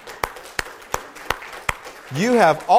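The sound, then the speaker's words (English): Five slow, evenly spaced claps ring out sharply, like the start of applause, followed by a voice swooping up and down in pitch over the last second. “I think it's time for you to pat yourselves on the back with a little bit of applause.”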